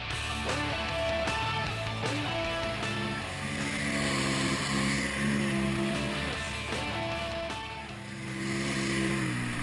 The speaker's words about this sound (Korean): 제트스키는 물 위에서 달리는 모터사이클, 그러니까 물 위를 모터의 힘으로 달리는데 오토바이 타는 것과 비슷합니다.